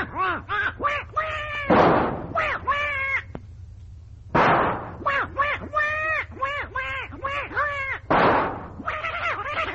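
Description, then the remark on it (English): Rapid, nasal duck quacks come in loud bursts of several calls each, broken up three times by sharp, booming blasts like gunshots. “Here comes that duck again.”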